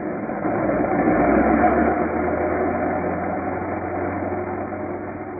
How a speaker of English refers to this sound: Somewhere near Armentières, France, at a British bombing squadron aerodrome behind the lines, Captain Goodwin and Lieutenant Barker are watching the planes of B flight warming up and taking off for a raid on an enemy strong point.